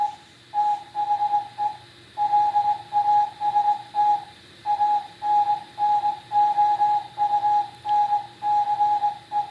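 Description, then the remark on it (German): The last radio transmission of the coastal radio station Nordic Radio: a single steady mid-pitched tone keyed on and off in short and long pulses, like Morse code, over faint radio hiss and static. “Hier kündet Nordic Radio an, dass er jetzt zum letzten Mal eine Funksendung ausstrahlt und sich damit bei allen noch vorhandenen oder zuhörenden Seefunkstellen für die jahrelange Mitarbeit oder bedankt.”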